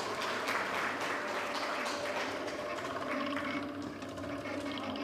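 Steady applause from an audience, a dense crackle of many hands clapping at an even loudness for about five seconds, with no voices standing out.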